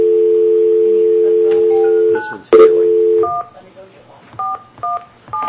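A steady phone dial tone hums for a few seconds, then gives way to a string of short two-tone keypad beeps as a phone is dialed, pressed one after another at uneven intervals, clear.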